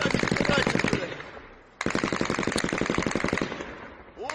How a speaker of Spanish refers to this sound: Es el sonido de los sistemas antiaéreos rusos intentando derribar hasta 10 drones ucranianos que pretendían acercar, atacar varios objetivos cerca de Moscú.